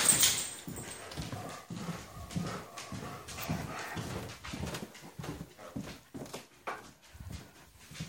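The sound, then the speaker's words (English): A dog being let out moves about, its claws tapping the floor in quick irregular steps, with soft whimpers and panting breaths mixed in; no one speaks. “Yeah, just let the dog out.”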